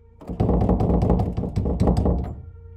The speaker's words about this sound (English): He also grabbed at the doorknob and tried turning it.